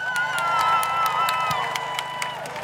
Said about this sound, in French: Là maintenant, on va commencer par le comité de lutte pour les MNA qui va faire un discours en français et en arabe. Je vous laisse les applaudir et faire beaucoup de bruit.